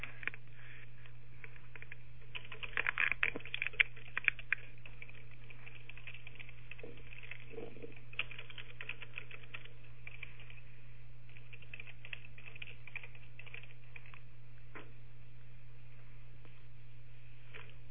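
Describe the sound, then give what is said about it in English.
Quiet computer keyboard typing: a burst of rapid clicking keys early on, then sparse, irregular taps over a steady low electrical hum, with no one speaking. “music of the keyboard.”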